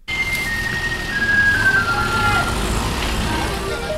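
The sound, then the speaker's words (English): A small garbage truck making its way down a street in Taichung, Taiwan, plays a loud, looping electronic melody with steady high tones over the rumble of its engine and street traffic. “That's a little garbage truck. It's not like the garbage truck we think of.”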